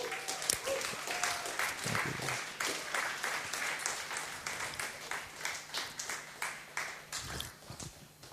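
A crowd claps in worship of the Lord, steadily in a loose, roughly even rhythm, many hands together forming a bright, sustained patter that pulses with each beat, with faint voices underneath.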